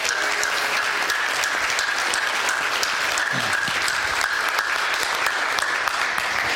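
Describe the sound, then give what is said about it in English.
A Revive Wesleyan audience applauds its lead pastor steadily, a dense wash of many hands clapping at an even loudness for several seconds, with no one speaking over it. “So could we give a round of applause to Paul for being here?”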